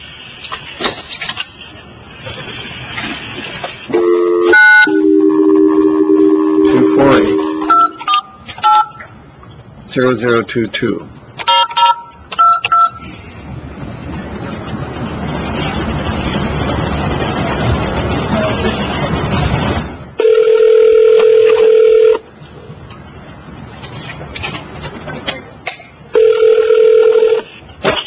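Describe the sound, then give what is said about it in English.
A rapid string of touch-tone beeps as a phone number is keyed in by a judge in Oro Valley, a stretch of hissy line noise, then two long ringback tones sounding over the handset. “And we've got a phone number for Mr. Lindemann.”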